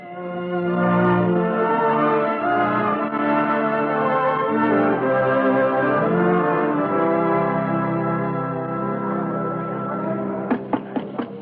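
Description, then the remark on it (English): A school bell rings loud and steady past 8 o'clock, its layered ringing tones sustained for about ten seconds before a few sharp clangs close it out. No one speaks. “Uh-oh, listen. The school bell. It's past 8 o'clock.”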